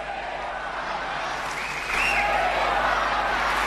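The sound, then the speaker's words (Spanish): A large tennis crowd at the Lenglen court roars with applause and cheering as the whole Spain bench stands, growing louder partway through, with scattered shouts and whistles rising above a dense, steady wash of noise. “Se levanta todo el banquillo España y mira, mira lo que grita la Lenglen.”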